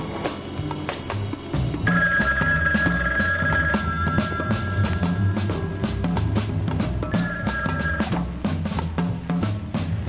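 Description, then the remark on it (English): A telephone rings in two bursts, a long ring followed by a shorter one after a pause, its steady electronic tone sitting over a dense, busy background of music and noise. “I have the only working phone left.”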